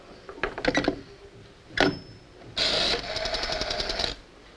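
A telephone being dialed by a woman who doodles on paper as she dials: quick bursts of mechanical clicking and whirring, with a short sharp clack midway and a longer, steady rattling run toward the end. No one speaks.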